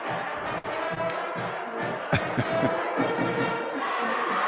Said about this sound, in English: Crowd's fired up. Nice crowd on hand here at the Owl's Nest.